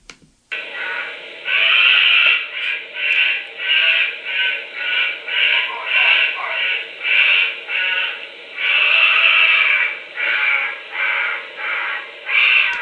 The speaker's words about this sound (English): So if you bear with me, I have a sound. Okay. And it's kind of just fun to put a sound to a face. So this is a honey badger scream vocalization.